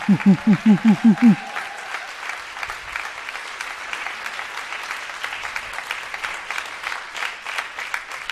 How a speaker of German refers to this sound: Einmal hier lang und es wird weiter applaudiert.